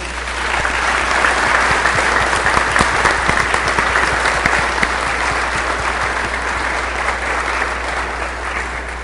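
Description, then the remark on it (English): Sustained applause from a church group honouring a volunteer, a dense steady patter of many hands clapping at an even loudness for several seconds, with no voices standing out. “And I think she needs a round of applause.”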